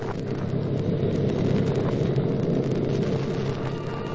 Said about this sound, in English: The plane's out of sight. It was like a star fading in the distance.